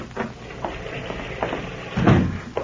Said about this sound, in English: Then the door opens.